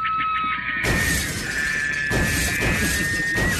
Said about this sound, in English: Police in Dover, Foxcroft, Maine say that a moose crashed through the window of a now closed pizzeria very early Friday morning.